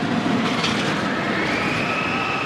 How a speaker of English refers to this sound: Families are scampering through the amusement park at the center of the facility. And as kids whiz around on roller coasters, their screams echo throughout the space.